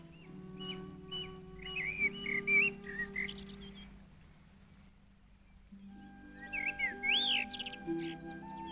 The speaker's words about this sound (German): Wie ein junger Spund und bläst seiner Amsel ein Liedchen.